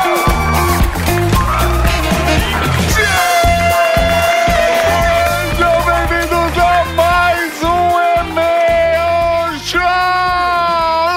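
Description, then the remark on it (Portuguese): The studio audience of the E-Mail Show at the Rede Geek studios in São Paulo cheers and whoops loudly and continuously, blended with a bright, sustained musical backing that runs the whole way through. “é um prazer estar aqui para mais um E-Mail Show junto com você, junto com essa plateia maravilhosa!”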